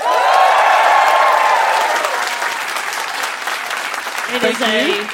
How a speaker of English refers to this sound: So just to meet everyone as a crowd, give me a round of applause if you've ever heard our show before.